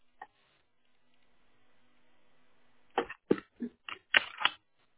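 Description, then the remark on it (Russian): An internet cable is unplugged from a router and pushed back into its socket: a single faint click, a stretch of low hum, then a quick cluster of sharp plastic clicks and rattles. “И попробуйте сейчас кабель выключить и обратно по щелчка включить, потому что сигнал не дает ваше устройство.”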